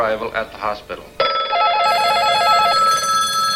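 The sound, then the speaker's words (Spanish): A person speaks briefly, then telephones at newspapers, hospitals and police stations on the west coast start ringing loudly and continuously, a layered electronic warble with a rapid trilling pulse that keeps going to the end. “Los teléfonos de los periódicos, hospitales y comisarías de la costa oeste empezaron a sonar con histeria.”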